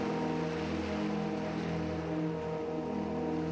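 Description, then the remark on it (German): Gentle, calm Atlantic Ocean waves wash in on a sunny day in a steady, continuous hiss, with a low droning hum underneath and no voices. “Ins bunte Licht der Sonne getüncht, wirkt das schroffe Meer jetzt offen und friedlich.”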